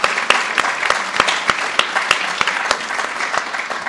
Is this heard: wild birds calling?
no